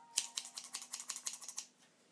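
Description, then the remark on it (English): Rapid series of sharp, crisp snips as scissors cut through stiff plastic vacuum packaging, about a dozen quick clicks in an uneven rhythm, fairly loud, with no talking. “Dangerous with scissors.”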